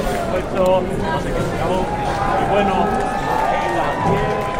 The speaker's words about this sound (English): And as you can hear, Edinburgh gets quite busy at this time of year.